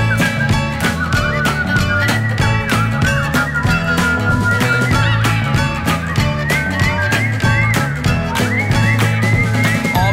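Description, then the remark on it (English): Busy, warbling bird calls with gliding, whistle-like pitches chatter continuously over a steady, rhythmic pulsing backing, loud and dense throughout with no pauses. “They make a thousand truly clueless noises, and this is the sound.”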